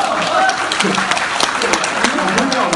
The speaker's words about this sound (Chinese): 为什么你上台来，大伙报以热烈的掌声啊？ 有掌声吗？ 有。